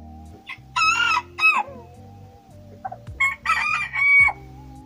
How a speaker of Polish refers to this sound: startują w konkursach piania kogutów. One są głośne i to pianie jest w takiej tonacji może nietypowej dla kur